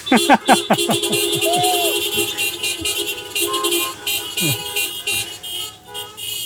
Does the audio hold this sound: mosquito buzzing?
no